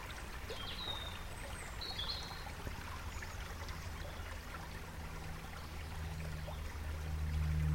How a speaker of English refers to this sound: Just listening now, actually, there's a lot going on around us, isn't there? As you say, the bird song and this little stream going past us.